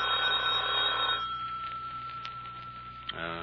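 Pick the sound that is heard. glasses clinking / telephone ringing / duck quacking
telephone ringing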